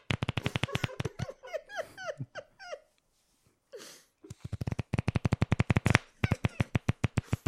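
Training playing cards being shuffled: quick, dense runs of crisp riffling clicks at the start and end, separated by a stretch of squeaky, wavering pitched chirps and a brief near-silent pause.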